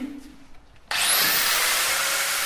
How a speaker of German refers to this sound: Noch schleift die Sozialarbeiterin Miriam Khalidi die riesige Kücheninsel ab, noch fehlt die zentrale Treppe, aber das Ende ist in Sicht.